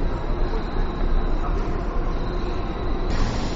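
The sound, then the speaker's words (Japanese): A Rapid train bound for Narita, with four doors per car and 15 cars, arrives at platform 4 of a station: a dense, steady roar of wheels and motors that stays loud and even throughout, with a faint high hiss riding on top and no voices. “まもなく4番線に快速成田行きが参ります。”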